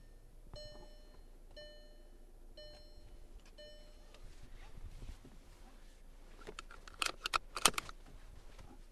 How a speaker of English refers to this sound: I'm going to start the car then.